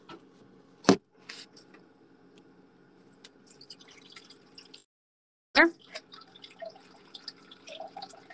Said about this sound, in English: I am filling up my water.